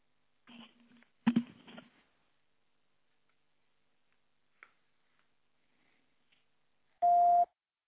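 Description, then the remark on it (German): Phone dialing sounds as someone calls a mobile phone: a few short clicks and tone bursts near the start, a couple of faint ticks, then a loud steady call tone near the end. No speech. “Ich werde mal versuchen, auf Handy zu erreichen, um Ihnen das mitzuteilen.”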